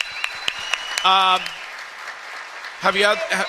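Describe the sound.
Steady audience applause, a dense wash of clapping with a few sharper claps, while a loud voice or cheer rises over it twice in short bursts.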